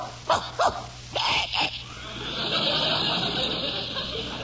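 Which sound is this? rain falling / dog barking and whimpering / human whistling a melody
dog barking and whimpering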